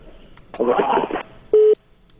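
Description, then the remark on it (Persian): A muffled voice over a phone line cuts off, followed by a single short, steady telephone tone, like a busy or disconnect beep, then faint line noise. “خب فکر میکنم تلفن هم قطع شد.”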